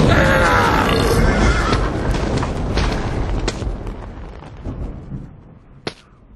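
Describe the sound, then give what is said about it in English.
A long, loud, rumbling burp after eating a steak special that starts strong and slowly trails off over several seconds, followed by a short sharp click near the end. “the $1.99 steak special does repeat on you”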